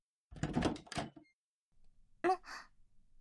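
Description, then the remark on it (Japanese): A bedroom door creaks open with a drawn-out, breathy groan, followed after a short pause by a quick rattling clack as it settles. The sounds are fairly soft, with no one speaking. “ちゃんとノックしたし、もう開けちゃうからね。”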